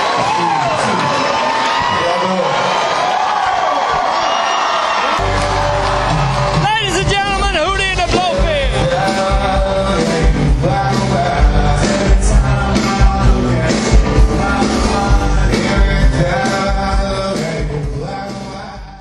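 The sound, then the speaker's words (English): A concert crowd roars with cheers and whoops as the band comes out on stage, loud and unbroken. A few seconds in, a heavy, booming band sound kicks in beneath the cheering and carries on to the end. “It looks like I hear the crowd going, so.”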